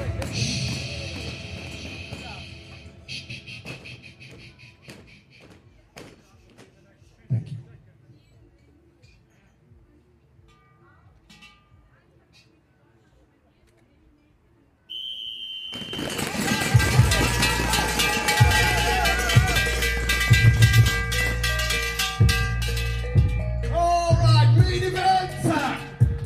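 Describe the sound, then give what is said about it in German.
A mountain bike eliminator race final at the Eliminator World Cup in Winterberg, Germany: a quieter stretch with scattered knocks and voices, then a short high beep and a sudden loud, sustained roar of cheering crowd as four riders clatter and rumble past spectators on a paved section. “Und wie so ein Finallauf beim Eliminator-Weltcup in Winterberg klingt, da hören wir jetzt mal rein, zurücklehnen und anschnallen.”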